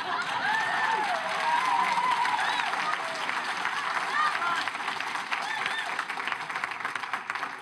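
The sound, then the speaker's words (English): An audience breaks into loud, sustained clapping that fills the whole stretch, a dense steady patter with scattered cheers and whistles rising above it. “That deserved a much louder clap than that.”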